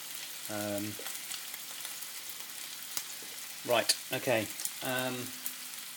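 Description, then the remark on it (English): A steady crackling sizzle of food frying in a frying pan on the bottom right ring of the hob runs throughout, moderately loud, broken by a few brief tonal, voice-like sounds over the hiss. “I've got my frying pan on the bottom right ring.”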